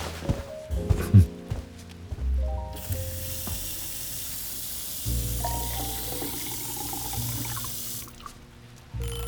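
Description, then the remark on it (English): A tap runs steadily with a broad hissing rush, water pouring into a glass for several seconds after a few clinks and bumps, then shuts off. No one speaks. “I'm going to get you a glass of water.”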